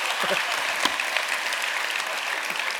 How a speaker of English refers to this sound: And so just I want to say publicly to all of you, I'm extremely grateful for your pastor and what a gift he's been to me. And that would be a great time to applaud if you wanted to. It's up to you.